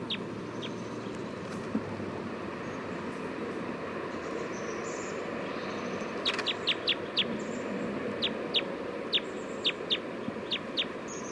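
A recording of bird number 311, made at 11:51 a.m.: a bird gives a series of short, sharp, high-pitched chirps, clustered in a quick run then spaced out, over a steady low rumble of background noise.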